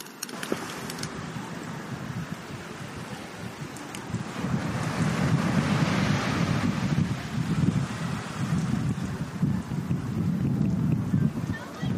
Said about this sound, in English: I'm guessing you can hear the waves, water coming in on the beach. It's a rocky beach. Maybe a little wind, too.